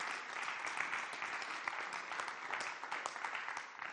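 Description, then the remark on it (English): A church audience claps their hands for the Lord in a steady, dense wash of applause, many overlapping claps sustained evenly for several seconds with no one speaking. “Would you wish to approach the Lord with their claps of hands for the work he's doing?”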